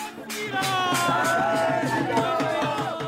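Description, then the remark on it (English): A lively, jubilant crowd celebrating at a newly built temple complex to Lord Ram, with steady rhythmic beats like drums or clapping and sustained singing or chanting voices, loud and continuous throughout. “And so you can hear it, the energy around the complex. It's exuberant. It's even jubilant.”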